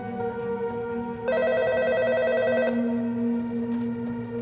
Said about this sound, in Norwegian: Når klokka var rundt 11 på kvelden, så ringte telefonen på rommet.